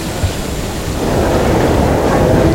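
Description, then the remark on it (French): A metro train pulls into a platform: a broad, steady rumbling roar with a low, churning undertone that swells louder after the first second and holds. No voices. “Un métro arrive sur le quai.”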